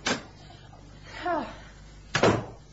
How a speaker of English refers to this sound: Open the door, and I'll escort them in.